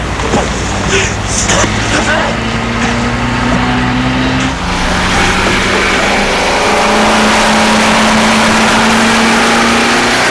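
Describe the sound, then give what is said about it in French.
A scooter engine is started and runs loud, its buzzing drone shifting partway through, then climbing steadily in pitch as it revs up. “Et met le scooter en route.”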